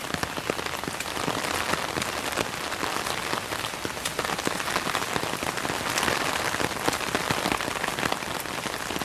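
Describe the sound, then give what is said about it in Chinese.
Steady rain patters onto a hard surface in a public square on a rainy day, a dense hiss full of countless tiny drop impacts, constant throughout with no voices. “因为下雨天，所以不是很好玩，这里个人都没有。”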